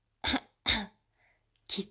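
Three sharp, fairly loud coughs: two in quick succession, a short pause with a faint breath, then one more. No one speaks.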